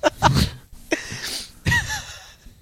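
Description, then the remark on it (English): A person loudly imitates a sneeze, producing several sharp, breathy bursts with short gaps between them and no ordinary speech. “The way I sneeze is quite loud and obnoxious and makes people scared.”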